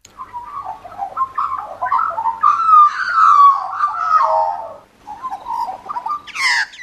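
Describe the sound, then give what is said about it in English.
An Australian magpie's warbling song: a continuous stream of rich, fluting notes and gurgling trills that rise and fall for several seconds, ending with a brief, higher burst. “Okay, so let's just have a quick listen to a magpie warble.”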